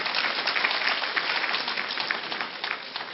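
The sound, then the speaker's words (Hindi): A crowd applauds steadily to welcome more than 350 participants from Maharashtra, India, a dense wash of many hands clapping at a fairly even level throughout, with no voices standing out. “Maharashtra, please, maximum about more than 350 brothers and sisters, सब तालियां बजा के उनका स्वागत करें।”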